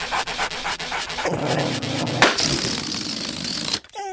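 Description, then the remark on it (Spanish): A dog pants rapidly in rhythmic breaths, then the sound thickens into a rough, sustained growling rasp for a couple of seconds before cutting off abruptly. “Además, si al perrito le da por morder a la hora de la cópula...”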